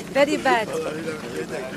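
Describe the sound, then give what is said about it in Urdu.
A crowd of migrants, newly arrived from Turkey by boat on the Greek island of Lesbos, chants and shouts slogans while entering a registration camp, with two loud rhythmic calls near the start fading into a steady murmur of group voices. “تارکین وطن ایک رجسٹریشن کیمپ میں داخل ہو رہے ہیں اور نعرے لگا رہے ہیں.”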